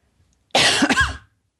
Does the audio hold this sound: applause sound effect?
no